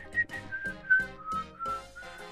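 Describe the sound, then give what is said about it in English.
A bright whistled melody carries a tune over steady rhythmic instrumental backing, each note clear and upfront, like the catchy opening of a pop song. “It starts with whistling.”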